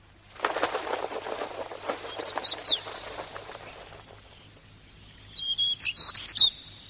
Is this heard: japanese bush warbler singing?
yes